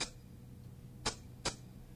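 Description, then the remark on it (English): A drum machine's maracas sample plays two short, crisp, hissy shakes about half a second apart, bright and dry, with no voices over a faint low background hum. “And these are maracas.”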